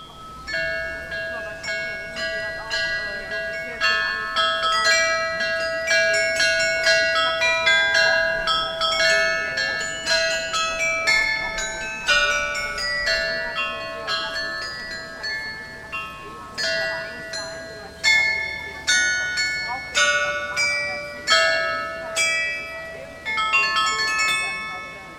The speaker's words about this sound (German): ist das Glockenspiel, ein Carillon aus 32 Glocken, welches sich an der Ecke zur breiten Straße befindet. Es ist mechanisch, aber auch manuell bespielbar. Dieses Glockenspiel ist sehr beliebt. Es erklingt immer samstags von 12 bis 12.30 Uhr.